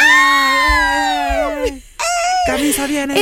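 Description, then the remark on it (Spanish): A single voice imitates girls screaming as a guest is introduced, with a long, loud, high wail that slides downward, breaks off briefly, then starts again in a second, rougher shriek. “Y todas las chicas gritan.”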